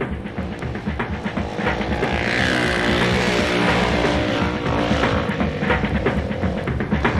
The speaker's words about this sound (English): Motorcycle has two wheels and handlebars to steer it. It's fun to drive, and when you drive, everyone can hear it. Yeah. I love it, man. It's the greatest.